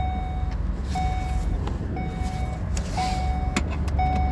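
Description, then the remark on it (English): A car's seatbelt warning chime sounds five times in a steady rhythm, each mid-pitched electronic beep lasting about half a second, over the constant low rumble of a running vehicle. “Anybody know how to disable a seatbelt buzzer?”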